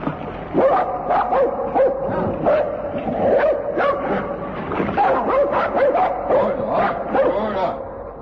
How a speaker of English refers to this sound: There they are, coming up towards us. And coming fast. Three, four, big sled, many dogs.